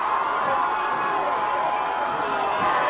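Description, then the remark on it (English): A steady roar of a large Menominee football crowd at the neutral site of Gaylord, Michigan, a dense wash of many voices murmuring and calling out at an even, fairly loud level for the whole few seconds, with no single voice standing out. “Big Menominee crowd on hand here at the neutral site of Gaylord, Michigan.”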